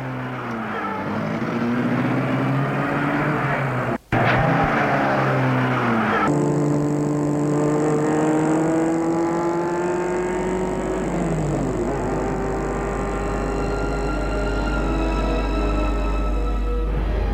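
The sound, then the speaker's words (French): A car engine runs steadily, its hum shifting pitch as the car drives off taking a boy to boarding school, with a low rumble building toward the end. No one speaks. “Dehors, il monte dans la voiture qui va le mener en pension.”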